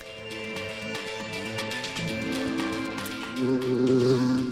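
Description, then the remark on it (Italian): A fly buzzes continuously, its drone wavering up and down in pitch and growing a little louder toward the end, with no voices. “È diventato un tormentone quella mosca”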